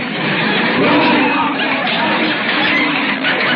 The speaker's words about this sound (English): listen to those people booing. What am I going to do? The audience is leaving for the other supermarket.